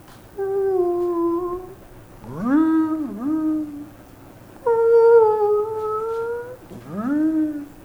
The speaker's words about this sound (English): When I was in fourth grade, I remember just loving this subject, and I had a little record I'd play, and I'd listen to the whale songs.